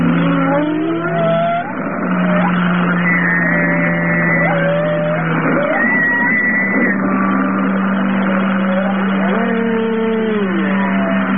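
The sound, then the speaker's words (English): A steady, low navy sonar tone, emitted at up to 195 decibels, drones throughout while higher whale calls rise, fall and warble over it in repeated sliding whistles and moans. No one speaks. “The sonar is the low tone. The higher tones are the whales.”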